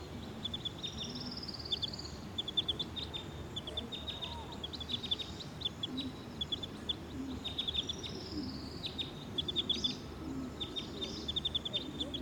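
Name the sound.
wild bird calls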